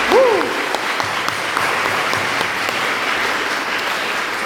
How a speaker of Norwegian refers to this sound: Vi har rett og slett Sunniva Gylver, biskop i Oslo her. Det vanvittig stas. En applaus for det, kan vi ikke ta det? Yes!